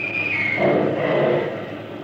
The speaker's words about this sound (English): Funny kind of lightning. That's artillery fire.